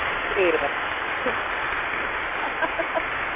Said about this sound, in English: An applause for you. Do you like that?